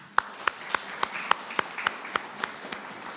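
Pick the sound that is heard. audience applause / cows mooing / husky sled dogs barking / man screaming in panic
audience applause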